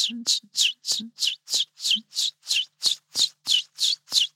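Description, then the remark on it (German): A chiffchaff sings its steady song: about thirteen bright, high notes repeated at an even pace, alternating slightly in pitch, with a faint low murmur in the first two seconds. “Das klingt, als wenn man so Münzen auf verschiedene Haufen sortiert.”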